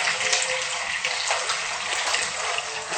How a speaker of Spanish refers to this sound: Y ahora echamos agua. Ya tenemos el agua calentita aquí.